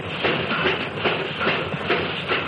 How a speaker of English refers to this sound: Hear that? That's about the way the first railroad locomotive must have sounded when it made its first run back around 1830.